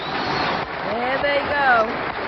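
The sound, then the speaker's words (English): Steady, dense applause from an audience fills the whole clip, with a voice rising over the clapping partway through, like a cheer or call. “And they're all clapping for you.”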